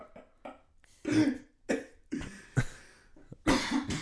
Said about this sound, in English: We're all just coughing.